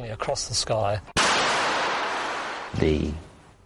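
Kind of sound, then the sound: sound effect, explosion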